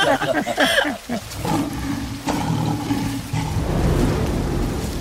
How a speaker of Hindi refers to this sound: चाचा जी ये तो शेर की दहाड़ है। ये शेर नहीं, उसके पापा का दहाड़ है